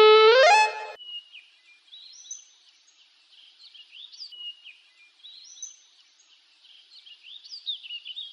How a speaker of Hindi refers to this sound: Students, आपने stand up के साथ सीटी की आवाज सुनी?